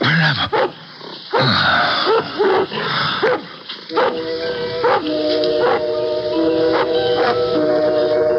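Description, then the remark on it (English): A dog barks loudly several times in quick bursts, followed by longer drawn-out yelping and howling tones, with no voices. “A dog barking.”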